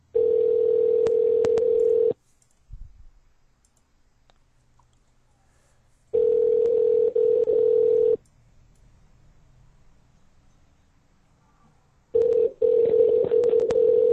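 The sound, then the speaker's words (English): A phone line ringing on a call to someone's home, heard as three steady electronic ring tones, each about two seconds long with roughly four seconds of quiet between them, clear with no talking. “Is he home? I hope so.”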